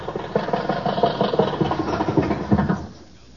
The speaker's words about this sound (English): Funny thing how the body keeps rattling after the motor's turned off, ain't it? Yes, there's no such thing as a car having convulsions, is there?